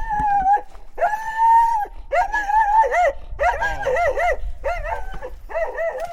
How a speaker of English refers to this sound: Can't tell if it's angry to see me or, like, you know, needs attention. I think he's doing the usual, I'm a dog, this is my territory kind of thing.